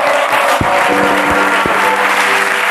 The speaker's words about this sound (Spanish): Un aplauso para Jorge Ponte, por favor, que ha venido.